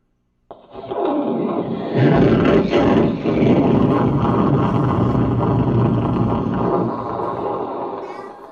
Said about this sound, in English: Did I tell you it's really loud? Yeah. Okay, here comes a thunderstorm. Don't jump out of your chairs, okay? Here we go.